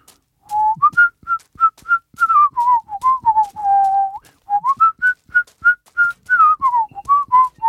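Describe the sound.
A person whistles a lively, meandering tune while walking a short stretch to a stand-up comedy show, the melody rising and dipping in quick notes and a few held tones, with soft clicks and rustles beneath from the walking.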